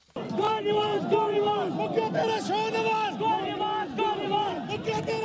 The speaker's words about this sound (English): A crowd of supporters for Pakistan's prime minister chanting "Go Nawaz Go" as Pakistan's Supreme Court has disqualified Prime Minister Nawaz Sharif from holding office and ordered him to step down immediately.